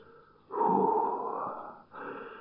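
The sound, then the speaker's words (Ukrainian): Heavy, forceful breathing with a snorting edge as a diver surfaces, tears off a mask and snorkel, snorts, spits and climbs out of the water: a long, loud, rough exhale followed by a second breathy burst, with no talking. “Гарячково зриває Бурмило маску, трубку, отпирхується, отпльовується, важко дихаючи вилазить з води.”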